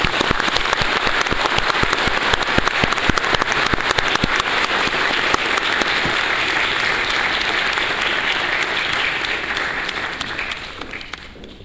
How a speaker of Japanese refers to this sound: 湯崎知事、ありがとうございました。なお、本日はご公務のためこれより会場を後にされます。皆様、今一度盛大な拍手でお見送りください。